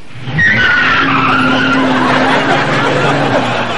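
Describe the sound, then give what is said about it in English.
A loud tire squeal rips out as a truck peels away, the high screech sliding downward over a roaring engine and gritty road noise for several seconds. “You'll be sorry if you put that truck into drive.”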